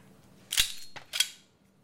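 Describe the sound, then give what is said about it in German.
Two sharp shots from a small ladies' cylinder revolver ring out about half a second apart, loud, each crack trailing off quickly into quiet with no one speaking. “Jetzt wäre der Schuss gekommen.”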